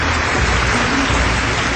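A dense, steady wash of loud clapping, with no gaps between the claps and no voices, like a crowd applauding throughout the short stretch.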